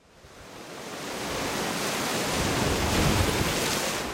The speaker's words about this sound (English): October 19th. Winds have begun gusting to 60 miles an hour. People are hauling boats inland and moving their meat drying racks. Shishmaref is bracing for another fall storm. I watch the waves devour the beach and begin pounding the bluffs,